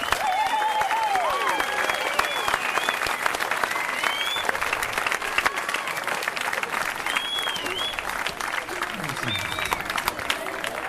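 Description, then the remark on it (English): A crowd applauds young Tamariki performers at Piritahi Marae on Waiheke Island, with dense, continuous clapping that stays loud throughout, while scattered cheers and whoops rise above it. “Let's give another round of applause to our Tamariki people.”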